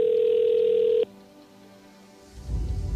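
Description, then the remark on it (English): A telephone rings once, a steady electronic tone lasting about a second that cuts off sharply. A brief hush follows, then a swell of low rumbling noise. No one speaks. “The phone tends to ring.”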